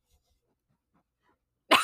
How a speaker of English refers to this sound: He is sniffing the mic. Can you hear it? He just like put his head on top of the mic. Could you hear him sniffing? No? I don't know. Maybe.